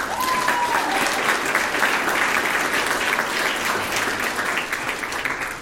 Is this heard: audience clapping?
yes